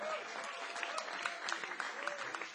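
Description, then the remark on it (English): An audience applauds a musician from two punk bands, the dense clatter of many hands clapping at an even, moderate loudness, with a few sharper claps standing out and no voices. “And you can give him a big round of applause.”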